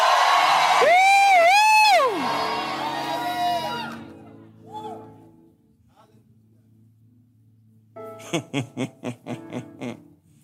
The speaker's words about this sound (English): It's powered by the Holy Ghost. Is anyone Holy Ghost powered in this place? Show it in your shouts.